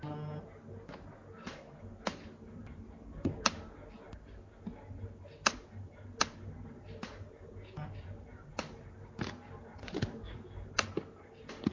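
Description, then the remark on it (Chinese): Computer mouse clicking and scrolling, the mouse broken and not working well, scrolled down by hand to find a passage of text: a scattered series of sharp, dry clicks at irregular intervals, some in quick pairs, over a steady low background hum. “等一下我找找经文啊，这个书上的这个鼠标坏了不好使了，我等一下我自己往下滚动滚动。”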